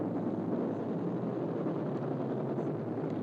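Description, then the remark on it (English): A helicopter drones overhead, a steady low rumble and whir holding at an even level for a few seconds, with no voices. “Another chopper.”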